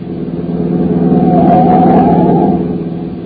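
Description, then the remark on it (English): A car engine roars up loudly, swelling to a peak near the middle as it speeds past, then begins to fade as it pulls away; a car coming up fast from behind on a road and overtaking. No voices are heard. “Oh, I say, sir, there's a car coming up behind us like fury.”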